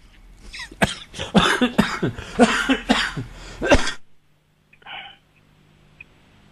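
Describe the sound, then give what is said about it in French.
A person coughs hard and repeatedly in a loud fit of rapid bursts lasting about four seconds, then falls quiet apart from a faint brief noise afterward. “Tu es en train de tousser.”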